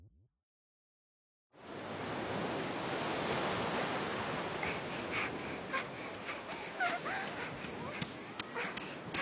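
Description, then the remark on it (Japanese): A steady wash of surf fills the scene, broad and continuous like waves rolling onto a beach, with faint voices and brief higher sounds flickering over it in the latter half. “ダメダメ、海に来たら海に入んなきゃ。”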